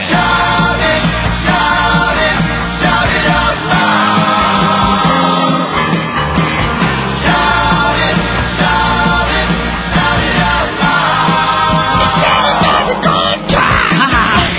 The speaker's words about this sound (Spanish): Señoras y señores, aquí estamos gritando cada vez más fuerte. Hasta ser escuchados, damas y caballeros.